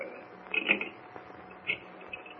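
Mechanical clicking of a telephone being dialed: a few short, bright bursts of clicks separated by pauses, fairly quiet, with no voices.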